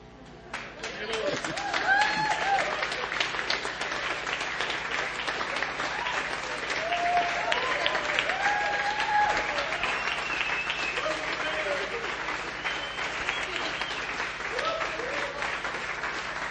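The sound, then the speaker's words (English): Sustained applause from a large audience giving their leaders a one-minute praising, steady dense clapping with scattered cheers and voices rising over it, continuing throughout at a fairly loud level. “How about we give them a 1 minute praising?”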